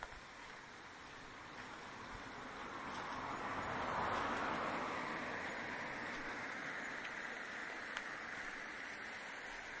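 A single car drives past outdoors, its broad road noise swelling gradually to a peak and then easing off again as it moves away; nobody talks.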